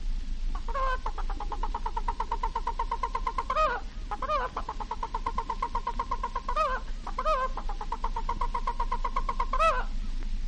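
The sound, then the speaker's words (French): A hen cackles loudly and insistently after laying an egg, in three long bursts of rapid, even clucks, each ending in a drawn-out rising squawk, with a low steady rumble underneath. “La poule venant de faire ce que nous ne pouvons pas faire.”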